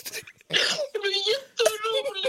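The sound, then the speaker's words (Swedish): A woman sobs, with a breathy, shaky gasp followed by two drawn-out, wavering wails, heard on their own without any talking. “Gråter hon. Hon gråter.”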